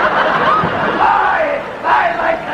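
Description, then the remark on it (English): Several voices scream together in a loud, continuous wall of high, wavering cries, swelling again near the end with no pause over the whole stretch. “Always go back to screaming.”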